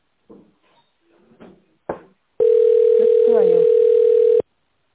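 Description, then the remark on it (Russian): A steady, loud, single-pitched telephone line tone on a call to a company line, heard after an automated prompt to dial an extension in tone mode or wait for an operator, holds for about two seconds, then cuts off abruptly, following a few brief bursts of speech. “Пожалуйста, наберите в тоновом режиме добавочный номер или дождитесь ответа оператора.”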